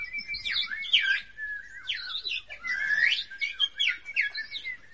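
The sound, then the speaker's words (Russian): Lively birdsong fills a forest in summer, with several birds trilling, chirping and whistling in overlapping, continuous phrases, clear against a quiet woodland background. “Стояло лето, и в лесу пели птицы.”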